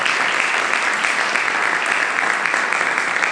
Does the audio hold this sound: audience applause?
yes